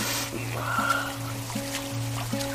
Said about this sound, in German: Wie eine graue Wand aus Wasser verdeckte der Regen die Sicht auf die Welt. In Kempen, in England, mitten im Oktober.